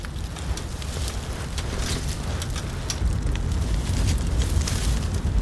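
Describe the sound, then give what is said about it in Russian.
A campfire outdoors in nature crackles steadily, with frequent sharp pops and snaps over a low, rumbling roar of burning wood. “Скажи, круто, да? Костер, природа.”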